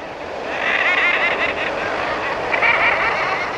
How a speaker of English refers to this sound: We're hearing common murres, birds of the Pacific and Bering Sea, and the North Atlantic by Labrador and Newfoundland. Common murres can fly underwater. In midsummer, imagine these black and white seabirds crowded on ledges 100 feet above the ocean